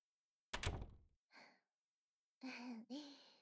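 The door of a room closes with a single solid thud, followed by a soft exhaled breath and a short voiced sigh.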